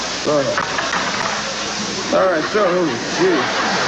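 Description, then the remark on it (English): A couple of cans of cat food sizzle steadily in a preheated skillet, a constant bright hiss running the whole time beneath a man's voice speaking over it in short bursts. “You get a couple cans of cat food, and you throw it in a preheated skillet in here, all right?”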